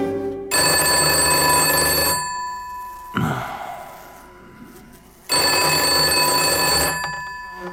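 An old-style telephone bell rings in two loud, shrill metallic bursts, each lasting about a second and a half, with a faint clunk and hush between them and no talking.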